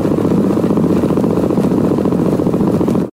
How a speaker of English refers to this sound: But then there's the black-capped chickadee, which beats 480 times a minute, a tempo so fast, just listening to it makes me feel nervous.